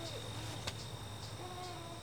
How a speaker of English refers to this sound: You can hear the insects singing their final songs, squirrels frantically preparing for winter, and migratory birds preparing for their long journey.